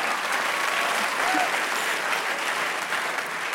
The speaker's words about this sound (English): Congratulations. Yeah, some applause for yourself.